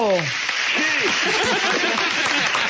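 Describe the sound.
An applause sound effect played on a broadcast show: a burst of crowd applause, a dense steady patter of many hands clapping for a few seconds, with some voices calling out or cheering over it.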